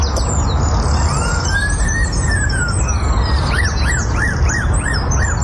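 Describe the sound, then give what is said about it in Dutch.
A bird in the trees by a traffic police car park imitates a police siren: a slow rising and falling wail, then a run of quick repeated up-down whoops, all over a dense background of other birds chirping and low rumbling noise. “Want in de bomen bij de parkeerplaats van de verkeerspolitie zitten, je raadt het al, vogels die geleerd hebben om het geluid van politie-sirenes na te doen.”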